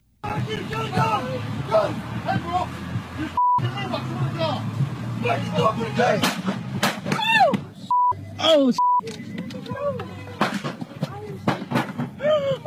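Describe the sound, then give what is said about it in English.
Several sharp gunshot cracks ring out in a bystander's video as police officers shoot a man on the ground, amid agitated bystander voices and shouting, with a few steady electronic bleeps cutting across the noisy, chaotic scene. “Someone's saying he's got a gun, he's got a gun, and then the fatal gunshots.”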